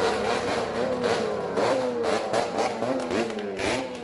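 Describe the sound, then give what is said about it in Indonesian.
A convoy of motorcycles roars past several public and private university campuses in Solo, Indonesia, on a Wednesday afternoon after vote counting at polling stations; several engines rev loudly at once, overlapping pitches climbing and dipping in a continuous, deafening drone with no voices. “Iring-iringan sepeda motor yang suaranya memekakkan telinga melintasi beberapa kampus negeri dan swasta di Solo usai penghitungan suara di berbagai tempat pemungutan suara atau TPS di Solo Rabu sore.”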